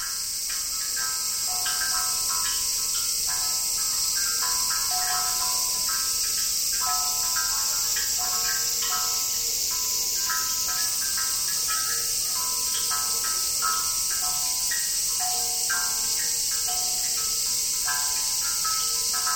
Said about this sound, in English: Water drips from a stone basin into a buried ceramic bowl. Bamboo tubes magnify the dripping, creating a peaceful sound. On a summer eve, cicadas added their own rhythms.